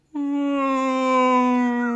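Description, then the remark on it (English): A person's voice imitates a whale call, holding one long, steady, low moaning tone with rich harmonics for about two seconds, sustained at an even loudness. “And I'm gonna go with whale sounds.”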